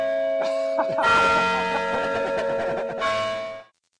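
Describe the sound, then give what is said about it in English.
The campanile bells at the top of McGraw Tower ring out in an overlapping peal on a day of snow squalls blowing across the valley, several struck tones clanging one after another with long shimmering resonance, loud, fading at the end. “Well, we promised we'd end here on the top of McGraw Tower, in and amongst the bells of the Campanile here, on a day when snow squalls are blowing across the valley, and our first serious snow accumulation is about to begin.”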